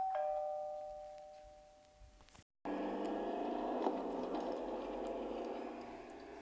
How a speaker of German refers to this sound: Bis gegen 20 Uhr mein Vater aufgestanden war und an der Tür stand, wo es geklingelt hatte.